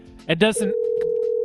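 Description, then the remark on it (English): A short burst of speech gives way to a steady, continuous pre-recorded electronic telephone ringing tone, a single low hum that holds evenly and clearly to the end. “It's not dead air. It's because the phone's ringing.”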